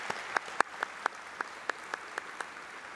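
Light, sparse thank-you applause from an audience for a pastor's faithful service: about a dozen separate claps in a loose, fairly steady rhythm, with no voices over them.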